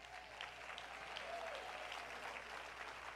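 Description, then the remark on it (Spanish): An audience applauds steadily during a church sermon, a dense, even wash of many hands clapping throughout with no voices rising above it. “Ese aplauso fue muy, muy.”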